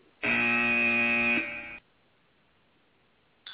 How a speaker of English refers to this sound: Jen, do you have the buzzer, the bell?